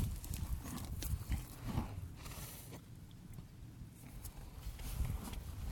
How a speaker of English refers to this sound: Oh. Inquisitive horse. Just coughed at me.